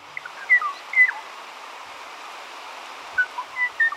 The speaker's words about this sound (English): The poignant, bell-like tones you're hearing belong to the Kauai o'o, a small forest bird of the Hawaiian island of Kauai. This recording was made in the Alakai Wilderness of Kauai, a region of native rainforest that often lies shrouded in mist.